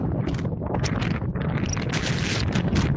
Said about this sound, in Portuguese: E o que escoitan é o vento na costa. Superaba a pasada madrugada os 141 km por hora en Penedo do Galo, en Viveiro, mentres que chegou a 107 km por hora na zona de Burela.